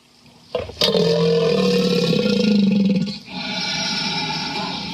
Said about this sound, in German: Dann gehen wir bei dem Stammbaum ein bisschen stammabwärts und kommen zu Krokodilen. Krokodile klingen so.